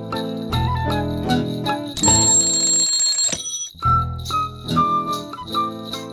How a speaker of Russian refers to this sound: Ты будильник заведи, да Ивана разбуди.